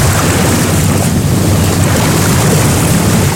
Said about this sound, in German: Hier in Regensburg, da klingt's, wenn die Schiffe vorbeifahren, an der Donau zum Beispiel so.